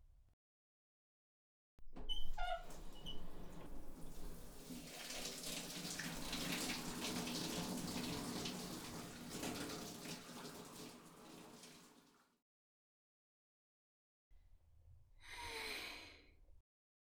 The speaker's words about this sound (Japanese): 気持ちいいシャワーだわ。本当に君の家のバスルームって広いのね。